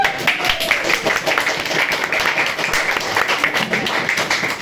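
An audience applauds steadily, a dense wash of many hands clapping at an even loudness throughout, with a few faint voices mixed in near the start.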